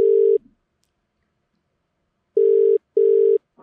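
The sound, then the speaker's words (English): A telephone ringback tone on an outgoing call purrs through the line in short steady bursts, a single pulse, a long pause, then a quick double ring, clear and fairly loud with no talking. “Hopefully Blade can hear the phone this time.”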